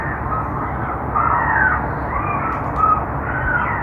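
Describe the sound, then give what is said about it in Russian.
Harsh, raspy crow caws blare continuously from the loudspeaker of a bird deterrent system on the roof of the Gazprom Arena stadium in Saint Petersburg, loud and somewhat muffled, with several overlapping calls swelling and fading over a few seconds and no talking. “Так, сразу после запуска системы отпугивания птиц, установленной нами на кровле стадиона «Газпром-Арена» в Санкт-Петербурге, сотнями начали поступать жалобы жильцов жилого массива, расположенного в 1,5 километрах, на другом берегу реки Невы.”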